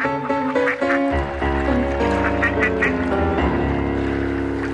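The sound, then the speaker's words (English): Ducks on Lake Mendota in Madison quack repeatedly in short nasal bursts, several overlapping calls, over a steady low rumble of outdoor water ambience. No one speaks. “fed the ducks on Lake Mendota.”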